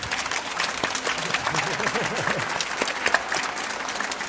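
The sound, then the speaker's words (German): An audience at a book fair event claps steadily for several seconds, a dense, continuous patter of many hands, with faint voices murmuring underneath. “Und dieser Zug, dass man das heute hört, hat einen extra Applaus verdient, finde ich.”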